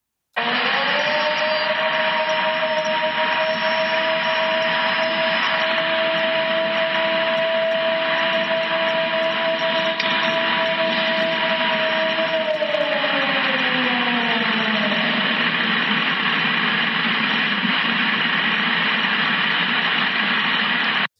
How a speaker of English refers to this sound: Okay, that was the first one, and then you sent me the second one, which was the clip of just one howl that was going on for, what, 15, 20 seconds. So have a listen to this.